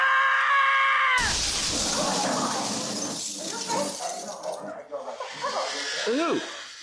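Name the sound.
a person screaming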